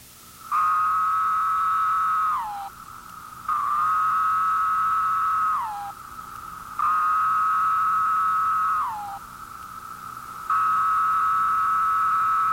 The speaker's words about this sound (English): Listen for the female's wing flicks in response to the male's song. This is followed by courtship song. And finally, the marvelous droning chorus of a woodland full of these magnificent cicadas.